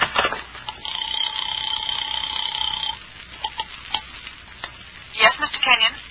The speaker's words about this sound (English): The house phone.